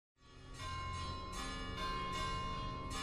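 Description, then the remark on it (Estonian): Church bells ring out across Estonia at about 11:45 on Maundy Thursday, 28 March 2024, just before a nationwide Lord's Prayer reading at the Nõmme Baptist audience's prayer house. The bells strike repeatedly about every half second over a long, shimmering hum of overlapping tones. No one speaks. “Kirikukellad üle Eesti kajavad ja siit Nõmme baptisti koguduse palvemajast on kohe algamas üleriigiline Meie Isa palve koos lugemine.”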